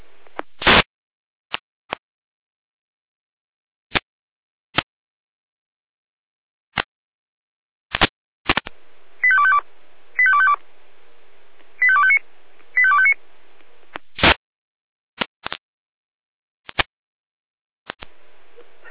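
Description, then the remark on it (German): A fire service radio alarm call tone sequence from the Jena control centre, alerting the Hermsdorf fire brigade: four short, mid-high electronic tone bursts in quick succession, framed by sharp, scattered radio squelch clicks before and after, with no one speaking. “Letzte Jena Alarmruf.”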